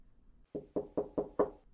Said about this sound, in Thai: เช้าวันรุ่งขึ้นชูเหยามาเคาะประตูแต่เช้าตรู่